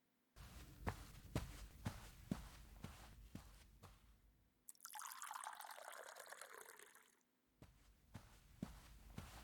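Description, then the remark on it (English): Steady footsteps walk away, then water runs and pours into a glass for a few seconds, filling with a rising hiss, before the footsteps return. No one speaks. “Well, here, give me your glass. I'll go get that for you.”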